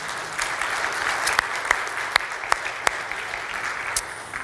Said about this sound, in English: Well, it's not our custom to give applause to our scripture readers, but maybe today we can make an exception.